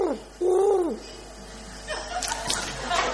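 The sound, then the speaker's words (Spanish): A parrot-like squawking bird call rises and falls in a loud warbling arc, followed by softer scratchy, chattering noises. It is fairly loud, with no clear speech. “Parece un loro.”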